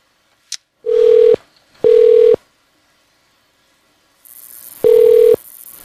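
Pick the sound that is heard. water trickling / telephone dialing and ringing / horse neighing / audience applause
telephone dialing and ringing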